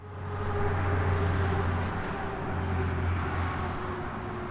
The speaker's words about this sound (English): Cars and trucks on Route 93 make a constant roar.